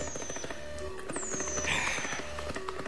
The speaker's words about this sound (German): Rakete explodiert.